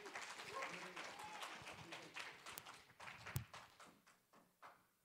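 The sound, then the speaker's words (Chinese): An audience breaks into a round of applause to welcome the next speaker, dense steady clapping filling the room for several seconds before thinning out and fading away toward the end. “我们热烈掌声欢迎他。”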